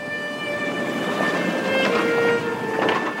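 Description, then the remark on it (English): A train rolls steadily along the rails on an 8-hour ride from Moscow to the small town of Borovichi, with a constant rumble and faint metallic hum, and a couple of brief rattling clatters rising from the noise. No voices. “They took an 8-hour train ride from Moscow to an orphanage in the small town of Borovichi.”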